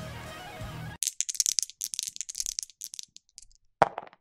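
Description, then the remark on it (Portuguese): A die is rolled and lands on 6. It rattles and tumbles across a hard surface in a quick burst of bright clicks, ending with a sharp knock and a few small taps as it settles. “E deu 6 aqui no dado nessa lista para um jogo baseado numa série de TV.”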